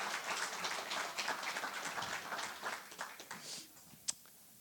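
An audience applauds in a dense, steady clatter of many hands for about three seconds, then thins to a few scattered claps, with one sharp single clap just before the end.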